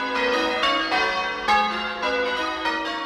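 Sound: church bells ringing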